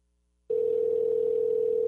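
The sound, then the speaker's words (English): After a moment of silence, a steady, clear telephone tone switches on and holds loud and unbroken to the end, like the ringing heard on an outgoing call, with no voices. “And I'm hearing the ringing.”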